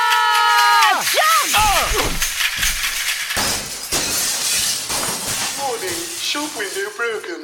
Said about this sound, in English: Mindful of the shattered glass.